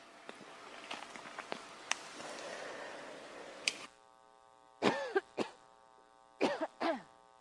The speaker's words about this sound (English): Yeah, sorry. Sorry that I had to cough there. I'm frantically looking for the mute button so that I can not cough into the microphone.